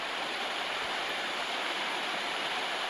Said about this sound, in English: They basically play white noise in her ears.